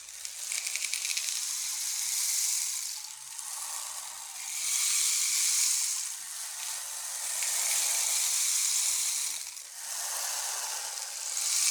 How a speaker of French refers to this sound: Effectivement, une pluie battante tombait sur les toits de Paris.